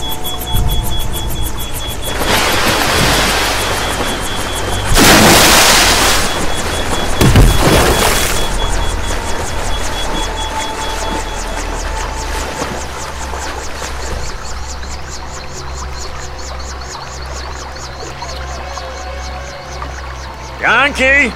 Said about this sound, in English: Now, let's go back to the helicopter. We're almost by the river! This is gonna be a hard landing, I can tell you now, even though we'll be landing in the water. Brace yourself!